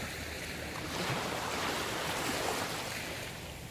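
Steady ocean surf washing onto the shore, a soft broad rush that swells gently and then fades slightly, heard on its own without any voices.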